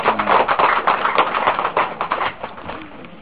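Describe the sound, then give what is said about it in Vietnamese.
A crowd at a temple fundraising event breaks into steady applause after a donation is announced, many hands clapping in a dense, crackling patter that stays loud for about three seconds before thinning slightly at the end. “khi chùa hoàn tất xong, con xin cúng dường 10 vạn, tức là 100 ngàn cho một tràng pháo tay.”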